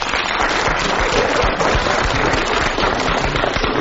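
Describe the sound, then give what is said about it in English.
A studio audience applauds to vote on whether a panel game player showed definite hesitation, a dense, steady crackle of many hands clapping at once, loud and unbroken for about four seconds with no voices. “If so, please clap.”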